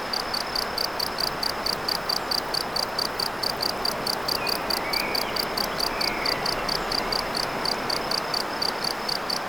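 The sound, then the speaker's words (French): Insects chirp in a steady, rapid train of high-pitched pulses that runs unbroken from start to finish over a soft, constant background hiss, with a faint brief call midway. “Non seulement les insectes, les oiseaux, la rivière, et cet insecte-là, n'est-il pas le premier à avoir inventé les sons électroniques ?”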